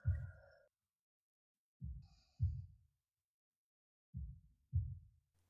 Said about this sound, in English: Heartbeat soft. Slow. even.